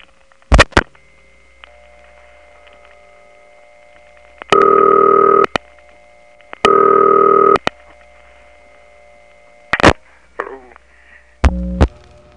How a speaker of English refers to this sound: the 6-2 step has that dial tone, combined with that whining noise that reminds me a little bit of a jet engine